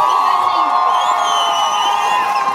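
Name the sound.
crowd cheering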